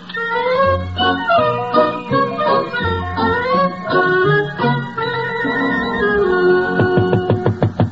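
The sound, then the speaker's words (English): A short orchestral overture opening the television play Amnesia plays, then as it winds down a quick series of about half a dozen sharp knocks on a door sounds out in a steady rhythm. “Don't bother, Giles. I shall open the door. Coming, coming.”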